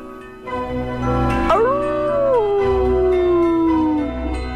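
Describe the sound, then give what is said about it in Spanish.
A single long wolf howl rises sharply, then holds and slowly slides downward for a few seconds before fading, over a low, steady background rumble. “cada vez que el lobo aparezca por aquí.”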